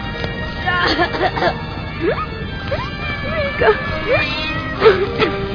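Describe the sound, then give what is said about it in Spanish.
Several short, rising-and-falling cat meows come one after another over a steady bed of background noise, moderately loud, with a busy, clattering atmosphere underneath. “¡Gato! Aquí.”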